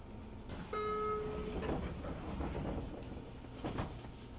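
Train doors closing amid steady carriage rumble: a brief electronic warning chime sounds, then the doors slide shut with a muffled thump a few seconds later.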